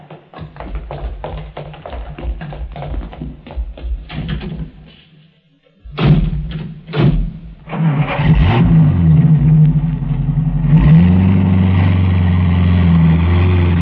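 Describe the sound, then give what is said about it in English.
A car door clunks and footsteps shuffle, then after a short pause an engine cranks and catches, revving up loudly into a steady rumbling idle. “Now, where's your car? Right over here.”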